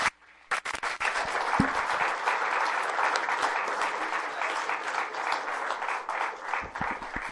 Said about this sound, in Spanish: Les invitamos para que podamos darle un aplauso fuerte a nuestro hermano y darle las gracias así.